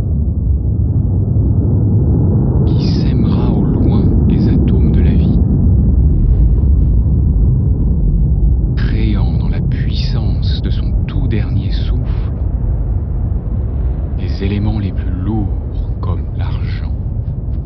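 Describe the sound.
A deep, continuous explosive rumble depicting a dying star's supernova explosion fills the whole stretch, steady and loud, while a voice speaks softly over it in a few short bursts.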